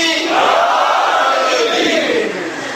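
A large crowd shouts the religious slogan Naara-e-Haidari in unison, a loud sustained roar of many voices swelling and holding for a few seconds before easing slightly.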